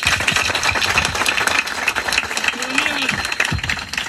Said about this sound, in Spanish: Un aplauso a ellos.